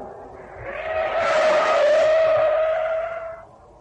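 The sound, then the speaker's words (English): In a near-accident, a car's tires squeal in a long, loud skid, a sustained screeching tone that swells over about two seconds and then fades away, with a low engine rumble beneath and no talking. “After all, I nearly had one yesterday with the car.”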